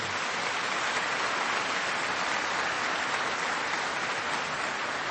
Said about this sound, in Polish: No należą się brawa tym dziełom, tak.